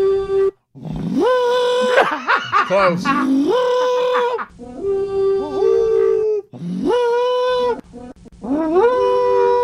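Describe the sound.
An elk bugle call blown through a PVC pipe: several loud, rising harmonic wails that glide upward and hold, repeating in a rough series, with a brief spoken word between them.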